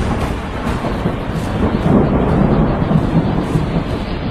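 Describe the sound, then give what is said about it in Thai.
A heavy downpour roars steadily, with deep rolling thunder rumbling underneath throughout. The storm sounds loud, a dense continuous wash with no voices. “มันอะไรกันนักกันหนาเนี่ยฝนตกยังกับฟ้าถล่มทลาย”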